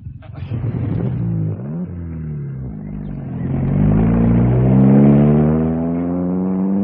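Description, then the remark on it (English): A car engine is started to see if the car will still go, before driving it down a hill to try out the brakes: it catches with a rough clattering burst, then revs, its low droning pitch climbing, dipping and rising again into a loud steady roar. No one speaks over it. “I just wanted to see if she would still go and try out the brakes.”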